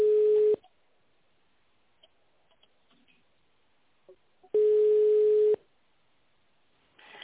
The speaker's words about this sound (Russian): Если вы знаете внутренний номер сотрудника, наберите его в автональном режиме или дождитесь гудка.